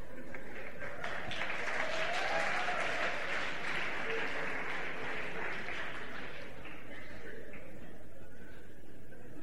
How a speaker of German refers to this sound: Ich kann mich nicht erinnern, dass ihr schon jemals während meiner Predigten geklatscht habt. Aber wenn ich irgendeinen Blödsinn mache, dann, ne?